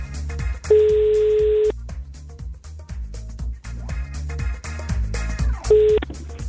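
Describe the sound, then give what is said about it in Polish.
Two steady ringback tones of an outgoing phone call to a listener for a prize game, where five rings are allowed; the first is a full ring and the second is cut short, sounding clearly over rhythmic background music with no talking. “Przypomnę, 5 sygnałów. Jeżeli ktoś nie odbierze, no to wtedy próbuję połączyć się z kolejną osobą.”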